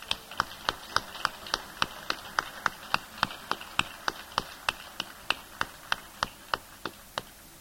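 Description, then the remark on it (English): Applause for a member's birthday, made of crisp, single hand claps in a steady, even rhythm, about three per second, each sharp and distinct rather than a blended crowd roar, with no talking. “so I think we might give him a round of applause.”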